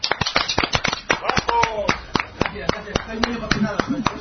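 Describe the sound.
Loud applause from a crowd welcoming a guest on a show, a dense run of sharp claps continuing throughout, with a few voices calling out and chattering beneath the clapping.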